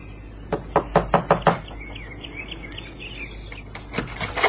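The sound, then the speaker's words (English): Five quick, firm knocks on a door, a pause with faint bird chirping in the background, then another short burst of knocks. No one speaks. “Knock, Johnny.”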